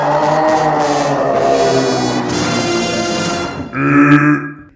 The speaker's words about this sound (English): Excuse me. I burped.